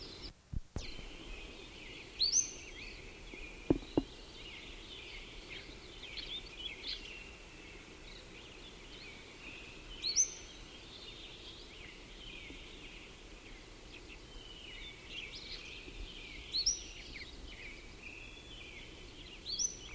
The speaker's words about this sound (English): The bird has stopped singing. Moved and is giving call notes. But I stopped to play back what I had to see if it's any good. It may have had something to do with it stopping singing. This is still the same bird calling.